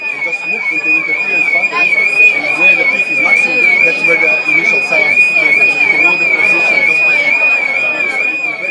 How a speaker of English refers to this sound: It was a fire alarm that probably had been accidentally set off by somebody opening an emergency door or something like that. So you're going to hate me for this, but I really want to play what this thing sounds like to you because it is awful.